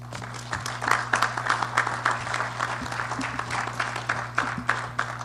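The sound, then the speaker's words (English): An audience applauds steadily after a speech, a dense wash of many hands clapping that holds at an even level for several seconds, with a faint low hum running underneath. “I thought I would be applauded for my brief introductions. That obviously isn't the case.”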